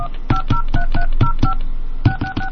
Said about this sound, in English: Please enter your PIN now. To make a call, dial 1, area code, and phone number now.